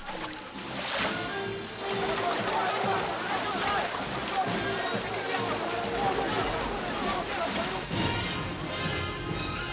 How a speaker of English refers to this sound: You see how interesting water makes the scene, the splashing of water gives it a wonderful feeling.